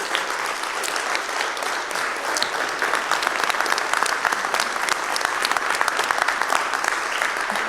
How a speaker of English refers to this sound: this is your applause. It's because of you we're here. Thank you.